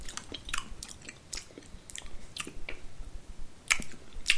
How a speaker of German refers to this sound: Schmatze.